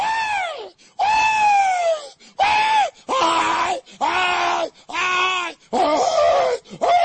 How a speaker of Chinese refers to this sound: The reason you must do that eternally, forever and ever. 我必须要做出这些尖叫的、喊叫的声音，永永远远的，要这样的理由。